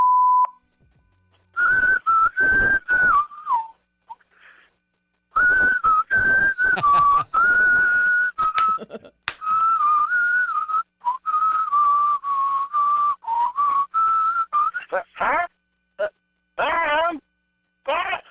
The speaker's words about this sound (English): I'm whistling on the radio.